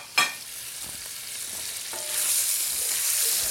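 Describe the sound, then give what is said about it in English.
Chicken sizzles as it is sautéed in a hot pan after bacon has been browned in it, with a steady, hissing crackle that swells louder partway through, after a sharp clatter at the start, with no voices. “And we're going to start sauteing that till it turns nice and white.”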